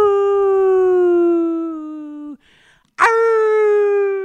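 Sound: people imitating a howl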